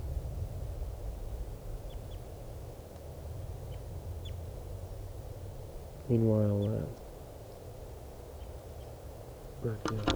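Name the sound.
bird calling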